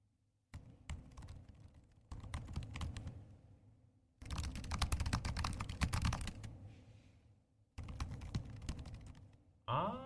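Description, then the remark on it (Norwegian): Rapid typing on laptop keyboards in several separate bursts: first a MacBook Air, then a MacBook Pro, then a MacBook Air again; the middle stretch sounds louder and busier than the quieter clicking before and after, with no talking. “Og da skal jeg først ha lyden av en Air, så en Pro, og så en Air igjen.”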